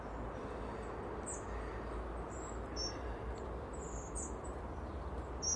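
Thin, high chirps from a small flock of birds, thought to be a mix of blue tits and great tits, in the trees, calling in scattered short bursts over a steady, loud background rush of noise, on a dry, fairly calm day with damp air.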